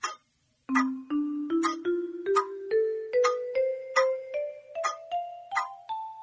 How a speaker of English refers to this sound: The clock struck ten.